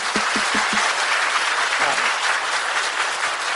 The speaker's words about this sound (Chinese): 好，再俾啲鼓掌声俾佢哋。